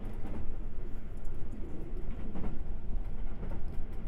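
A steady rumble of a train carriage rolling on rails, heard from inside the train, with faint rhythmic clatter and rattling running throughout and no voices.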